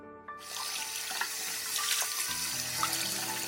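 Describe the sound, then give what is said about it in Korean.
A tap turns on and water runs steadily into a sink, a continuous loud hissing rush with slight shifts in the splashing as spinach is washed under it, over a low hum. No one speaks. “우선 시금치를 깨끗이 씻어 약간 큰 접시에 시금치를 예쁘게 담아.”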